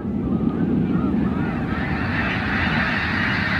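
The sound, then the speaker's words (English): About 1,000 snow geese resting on the water lift off together after being spooked by a bald eagle, a steady roaring whoosh of countless wingbeats layered with dense, overlapping honking calls, loud throughout, with no talking. “That big whoosh is the wings of 1,000 snow geese beating together, creating a rush of air like a passing freight train.”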